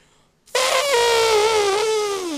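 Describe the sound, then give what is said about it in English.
A person imitates an elephant's trumpet during a radio show's animal-sound contest: after a moment of quiet, a single loud, brassy, high-pitched blare bursts out and holds for about two seconds, sagging slightly in pitch toward the end. “All right, I'm going to try my elephant real quick.”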